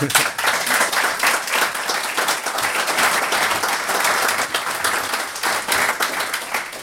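An audience breaks into sustained applause, many hands clapping in a dense, steady wash that holds at an even level for several seconds with no voices on top.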